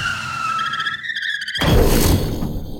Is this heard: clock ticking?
no